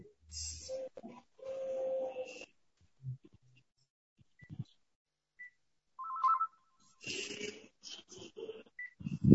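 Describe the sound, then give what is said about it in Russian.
Telephone sounds as a phone call is placed: electronic dialing tones and clicks, then short beeps and a ringing tone on the line. Brief bursts separated by quiet gaps, moderately loud. “я прошу прощения, сейчас мы, видимо, все-таки свяжемся по телефону, иначе не выходит.”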